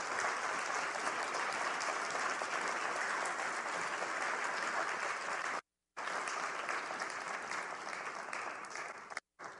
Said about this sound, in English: Kate really does deserve the largest applause this morning